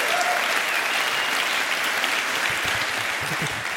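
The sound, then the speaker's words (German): An audience of around 400 people in a hall in Olten, Switzerland, claps steadily, dense and sustained applause filling the hall at an even loudness throughout, with a faint voice briefly audible beneath it. “Neben den rund 400 tollen Menschen hier im Saal, klatscht mal schön hier, die tollen Menschen hier in Olten.”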